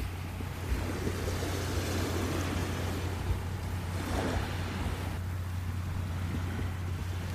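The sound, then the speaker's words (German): A continuous wash of ocean surf with waves gently swelling and receding, one fuller surge near the middle, over a steady low rumbling drone; no one speaks. “Und lass die Gedanken wie die Wellen hier am Meer kommen und gehen.”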